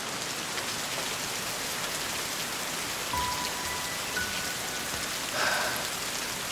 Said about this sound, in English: I step outside in the rain.